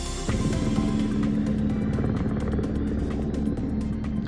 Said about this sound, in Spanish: Este sonido, el de los helicópteros sobrevolando pastos y montes, es la banda sonora de estas últimas 24 horas en Madrid, porque al incendio de Loeches, que ha quemado unas 700 hectáreas, hay que sumar otros tres